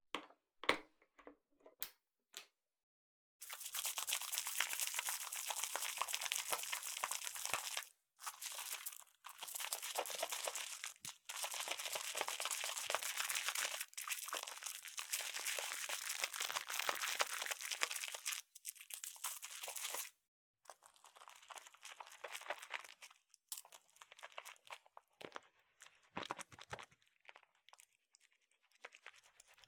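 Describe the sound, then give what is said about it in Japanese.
Shampoo lather being worked into hair: a dense, crackly squishing and crinkling that runs steadily for a long stretch, then thins into sparser, softer bursts with short pauses. No one speaks. “泡立ちのいいシャンプーを使いますから、きっと気持ちいいですよ。”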